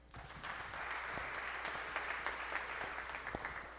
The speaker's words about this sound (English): If you want to say thank you, now would be a good time to do it. Give God a praise clap.